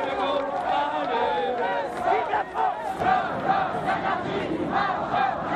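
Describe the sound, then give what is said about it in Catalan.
A large crowd at a Gaullist political demonstration in Paris shouts and chants in unison, crying "forward de Gaulle" and "out with anarchy", a dense roar of many voices with rising and falling rhythmic cries that stays loud throughout. “Gran manifestació gaullista a París. Crits d'endavant de Gaulle i de fora l'anarquia.”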